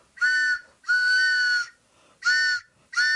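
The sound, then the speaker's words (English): A train whistle in the distance sounds four steady, reedy blasts, the first two longer and the last two shorter, each a bright held chord with a clean on and off, no voices. “It's the WBAI back of the book pitching train.”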